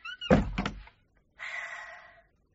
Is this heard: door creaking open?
yes